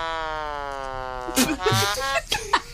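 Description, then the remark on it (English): A phone app's synthetic trombone holds a long, buzzy note that slowly sags in pitch, then breaks into several short, choppy blurts with voices mixed in. “So we've got, like, I've got a trombone one, which is quite good.”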